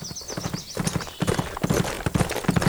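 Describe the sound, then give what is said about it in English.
Steady clip-clop of horse hooves at a brisk trotting rhythm as Jamie and Clarence ride their horses to an Indian village, moderately loud, with rustling movement and faint creaks in the background. “After switching back to his own horse, Jamie and Clarence rode until they reached an Indian village he knew.”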